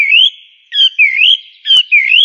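A blackbird sings loud, fluting phrases: several short, warbling whistled notes rising and falling, separated by brief pauses, with one sharp click partway through and no voices.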